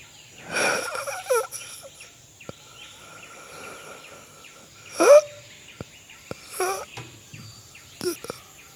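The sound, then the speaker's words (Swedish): Soft, wheezy hissing breaths come in several short bursts, separated by quiet stretches, over a faint steady high hum with a few chirp-like sounds, coming from bushes where a clearing meets the forest. “Men du hör någonting där. Ett tyst väsande.”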